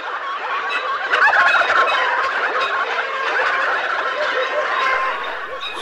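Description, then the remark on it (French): A dense, continuous chorus of many turkeys crowded in a shed, about 25,000 birds at eight per square metre, gobbling and chattering at once, a busy overlapping din that swells briefly near the start and stays steady throughout, with no talking. “Lorsqu'elle entra dans le hangar, elle vit des dindes à perte de vue.”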